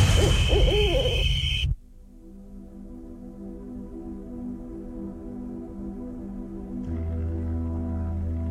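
An owl hoots in a short burst against a bright, busy background, which then cuts to a steady, low droning tone that swells slightly near the end.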